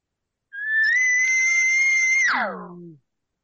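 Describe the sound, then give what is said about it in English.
An imitated bull call, made as an elongated cow call: a long, steady, high whistling tone that holds for nearly two seconds, then drops abruptly into a lower, fading grunt. It is loud and alone, with no talking. “So now elongate that, and then you have a bull sound.”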